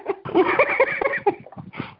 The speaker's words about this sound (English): So somebody's banging things around in the background. Sounds like a dog barking and banging things.